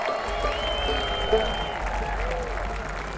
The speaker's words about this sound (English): So how about a wonderful round of applause for Planet Bluegrass.